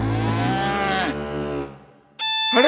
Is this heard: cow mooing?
yes